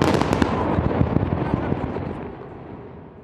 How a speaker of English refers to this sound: where they could watch this facility buried into a hillside blow up in front of them. They had three tunnels that were still remaining at the site, and they blew them up. These were major explosions.